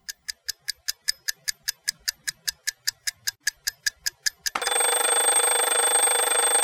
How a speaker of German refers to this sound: Wenn der Wecker zweimal klingelt, ist's vielleicht noch ziemlich früh.